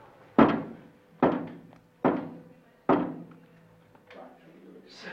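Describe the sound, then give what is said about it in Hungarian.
Four hard, hollow knocks, given in answer to a yes-or-no question (four knocks meaning yes), land about a second apart, each sharp and resonant with a short ringing decay, followed by a faint rustle; no one speaks. “Ha igen, akkor koppancs 4-et, ha nem, akkor 8-at.”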